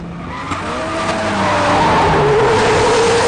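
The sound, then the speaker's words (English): A car skids as a truck rams it off the road: loud screeching tires that rise in pitch, over a steady roaring engine and rumbling road noise, sustained throughout. “Then the truck driver rams them off the road.”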